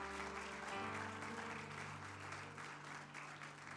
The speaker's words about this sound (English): Clap your hands to the Lord and give Him praise for His word.